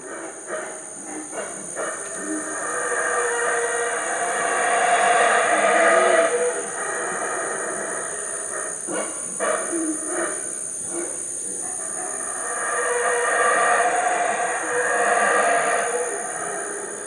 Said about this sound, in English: and get to the jungle, only to find out that it's this incredible roar of the howler monkeys that wakes up the jungle. Like there's a moment in time, it's like a rooster, but it's a howler monkey?